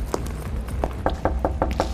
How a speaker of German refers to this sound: Ja, sollen wir mal klopfen oder?